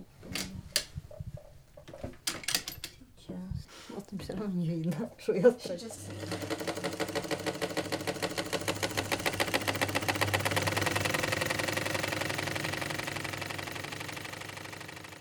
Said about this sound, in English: She's putting the fabric in the sewing machine, and she's going to show us what she does.